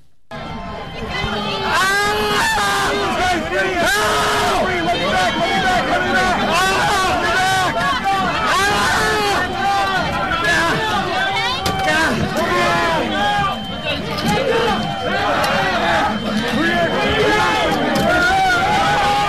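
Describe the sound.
A violent mob surges and shouts in a dense, chaotic roar of many voices, with strained yells and cries rising above the constant loud din for the whole stretch.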